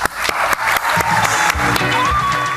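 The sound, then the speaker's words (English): A large crowd applauds loudly and steadily as Alan Bond is brought up on stage, with dense clapping, scattered cheers and a few rising whistles cutting through the roar. “they bring him up on stage and the crowd goes wild.”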